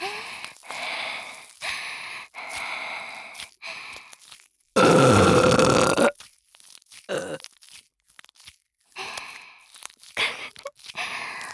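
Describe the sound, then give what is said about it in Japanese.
A single long, loud burp erupts for over a second, surrounded by quieter breathy, wet mouth sounds and sniffs before and after. “脇で顔締めて強制ホーリーゲップされるの好き？”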